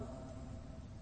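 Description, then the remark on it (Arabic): The engine of a passing Innova car rumbles steadily outside, a low continuous drone that holds level through the brief moment with no one speaking. “هذه سيارة”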